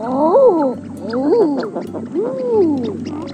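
An eider duck gives three drawn-out, crooning calls, each rising then falling in pitch with a breathy, oddly human "ah-OOO" quality, evenly spaced and fairly loud against a low rumbling background.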